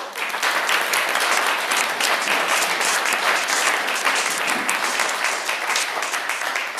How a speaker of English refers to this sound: First of all, I think most of us are still very impressed by last Sunday's service, not because of me, because of the music. And so if you enjoyed last week's service, applaud.